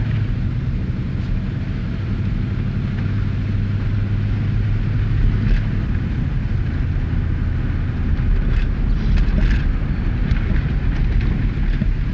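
A steady, low road rumble of a car driving, with a constant engine drone and faint intermittent rattles; no one speaks.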